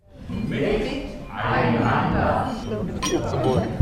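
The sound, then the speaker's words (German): Glasses clink amid a lively crowd, voices chattering and calling out together in a toast, with a bright chime of glass standing out near the end. Theatre audience members at bistro tables on the stage and in the auditorium raise their free drinks. “Prost. Die ZuschauerInnen sitzen an Bistrotischen auf der ebenerdigen Bühne oder auf Plätzen im Zuschauerraum, erheben das Freigetränk, das sie soeben an der Bühnentheke bekommen haben, und schon hat man sich ein wenig zusammen eingekuschelt.”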